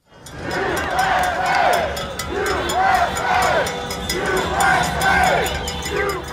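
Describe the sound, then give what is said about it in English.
A large crowd of protesters chants in unison outdoors while marching in San Diego on a Saturday against the closure of beaches and parks, voices rising and falling in a steady repeating rhythm, with sharp regular beats like drumming or clapping running through the loud, continuous din. “Crowds in San Diego there on Saturday marching against the ongoing closure of beaches and parks in the city.”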